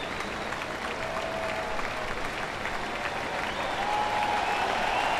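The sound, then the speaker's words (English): A large St. Louis baseball stadium crowd applauds and cheers Ichiro steadily for several seconds after he passed a Ty Cobb record, a dense roar of clapping with sustained cheering tones rising slightly toward the end, no clear speech over it. “That is a St. Louis crowd.”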